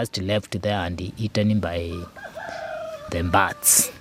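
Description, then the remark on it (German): A rooster crows loudly while hens cluck around it, their calls overlapping in a busy farmyard chorus with a sharp burst near the end, where chickens eat part of the threshed mung beans. “Einen kleinen Teil fressen auch Hühner und andere Vögel.”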